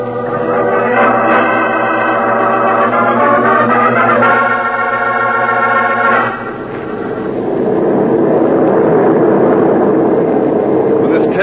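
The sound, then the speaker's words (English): An airplane engine of a plane flying to New York drones loudly and steadily, its pitch wavering and rising before settling into a broad, rushing roar that continues to the end, with no voices over it. “Peters, order a plane for New York.”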